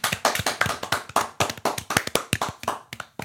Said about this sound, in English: Hand clap.